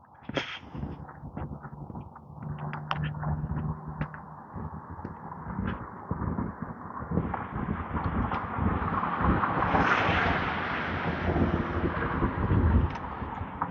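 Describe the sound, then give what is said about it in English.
Brisk wind gusts steadily on a sunny 50-degree morning, buffeting the microphone with a low rumble, sharp flapping snaps and cracks scattered throughout, swelling into a stronger rushing gust near the end. No one speaks. “The wind is brisk, but the sun is warm.”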